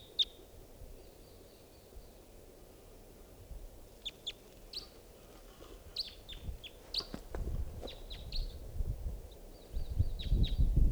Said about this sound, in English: So, pointing out the wild bird. In flight. Lone bird. Wild.